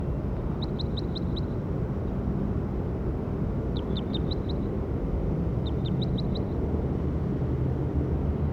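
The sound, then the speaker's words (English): A bird calls in three short bursts, each a quick run of about five high, clipped chirps, heard over a steady low rumble of background noise. “That was bird 57.”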